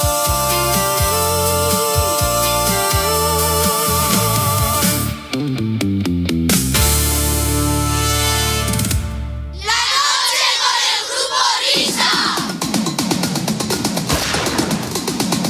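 A garbage truck empties a waste container holding fruit and vegetable scraps, lots of paper, glass and cardboard: a steady mechanical drone with a rising hydraulic whine, then a loud, sustained rush of clattering and smashing as the contents tumble into the truck.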